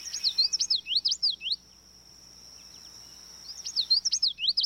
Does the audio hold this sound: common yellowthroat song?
yes